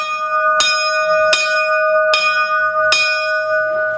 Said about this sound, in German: Punkt 11 ruft die Glocke zum Mittag, wo heute ein Glas Wein dabei ist, weil einer von den Oeschberger Pensionären Geburtstag hat.